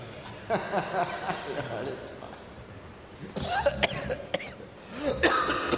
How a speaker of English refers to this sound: Excuse me, because whenever I start laughing, I start coughing. It's not the virus. It's a humor virus.